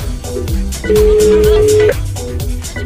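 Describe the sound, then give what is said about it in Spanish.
A phone ringback tone sounds once over a speakerphone held up close to another phone, a steady electronic beep lasting about a second, fairly loud over a busy background of murmuring voices. “Pero sí, pon el altavoz, por favor, y acércalo al teléfono para que escuchemos, si no nos dejes fuera.”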